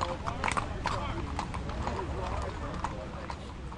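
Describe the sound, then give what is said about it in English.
Mounted police ride horses away: hooves clip-clop on pavement in a steady, slightly uneven rhythm of sharp knocks, with a constant wash of murmuring crowd voices underneath as crowds drift toward the memorials and monuments on the mall. “Police on horseback rode away.”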